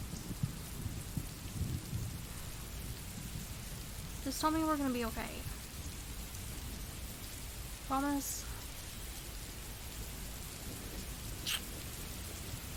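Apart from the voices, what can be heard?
heavy rain with thunder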